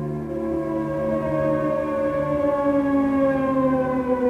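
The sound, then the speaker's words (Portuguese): A wailing air raid siren in Israel drones steadily, warning of incoming Iraqi missiles, its layered tones sliding slowly upward in pitch, loud and continuous with no voices over it. “As sirenes avisam, a rádio confirma, não há dúvida.”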